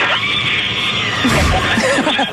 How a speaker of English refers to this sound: Hear that screaming inside the capsule? Oh, my God. That is like my idea of hell.